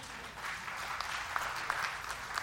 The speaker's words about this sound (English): But you can applaud for that.